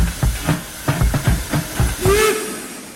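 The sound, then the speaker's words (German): A steam locomotive chuffs in rapid rhythmic bursts of hiss, about eight puffs, then a brief whistle-like tone rises as the chugging fades, with no voices. “Unterwegs in der Welt. Am besten mit dem Zug.”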